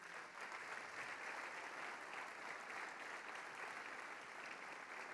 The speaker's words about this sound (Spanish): Amén. Amén. Denle un fuerte aplauso a los padres.